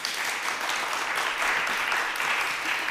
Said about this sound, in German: Wenn ihr jetzt mal alle ganz laut klatscht, dann wäre das vom kompletten Raum ein Ja. So würde sich also ein Ja von allen anhören. Klatscht einmal alle ganz laut.